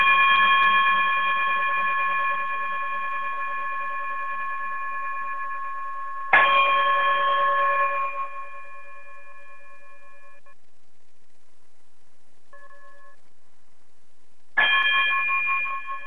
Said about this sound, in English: if you would chime us out.